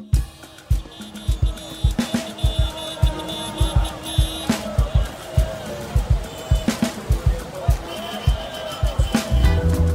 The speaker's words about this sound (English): Lagos is famous for its unending traffic, loud hooting and crowded roads.